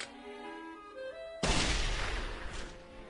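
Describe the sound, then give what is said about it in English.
A steady tonal hum gives way to a single sudden, loud blast of a little cannon, an explosive boom that roars and rumbles on for a couple of seconds before fading slightly. “There, a cannon.”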